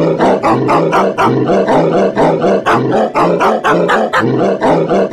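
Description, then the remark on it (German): Rapid, pitched dog barks follow one another in a steady musical rhythm, played like a tune on a musical instrument. Loud and continuous, with no talking. “Schnell weiter mit der Nummer 9, dem Wuffophon, einem Instrument, das auf dem Planeten Bello im Sternzeichen des großen Hundes seinen festen Platz im Universum hat.”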